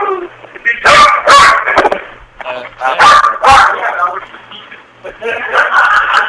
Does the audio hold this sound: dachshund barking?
yes